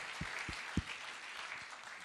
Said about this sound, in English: If you believe that God is able, why don't you clap your hands for a moment? Amen.